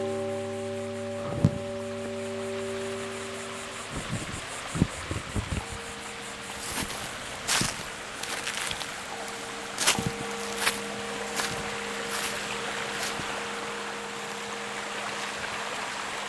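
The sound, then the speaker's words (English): Steady rushing wash of river water flows throughout, with a low droning hum in the opening seconds and scattered sharp knocks and splashes over the top. No one speaks. “So I just reached the river and I'm gonna switch to binaural microphones.”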